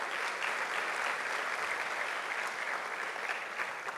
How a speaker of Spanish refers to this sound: ¿Cuántos me dicen amén y cuántos le dan un fuerte aplauso a Dios?